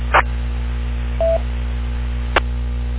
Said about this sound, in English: Hang on now, I got a phone call. I'll be right back.